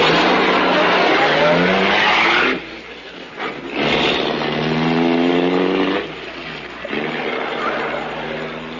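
A racing car engine roars loudly as it pulls away, the pitch climbing and dropping through quick gear changes, with a brief dip before revving hard again. No one talks.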